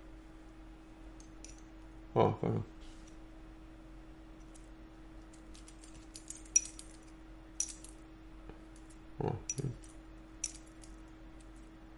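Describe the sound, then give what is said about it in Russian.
Small metal objects clink and jingle together a few times, like keys and a bottle opener being handled, with short bright taps scattered over a quiet background and a couple of brief voice sounds. “Я не знаю, из чего ключи. А вот, наверное, вот эта отмычка, вот эта открывалочка, наверное, металлическая.”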